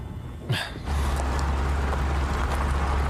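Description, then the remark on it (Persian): A brief thump or clunk, then a car's low, steady engine and road rumble sets in and continues, fairly loud, with a rough, jostling texture, as the car drives over a potholed road. “امیدوارم از یه سفر پرچاله خوشت بیاد.”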